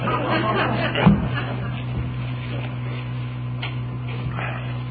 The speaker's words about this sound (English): late bulletin says we just turned on the air conditioning.